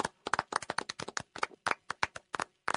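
applause

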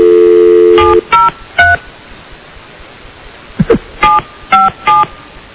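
telephone number being dialed

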